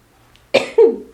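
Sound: coughing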